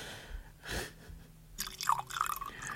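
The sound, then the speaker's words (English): Whiskey pours into a glass over ice, with a soft splash and a few bright clinks and gurgles toward the end. The pour is fairly quiet, with no one talking. “Do you want ice? Lovely. You're lucky. My whiskey is for special occasions or really, really bad study sessions.”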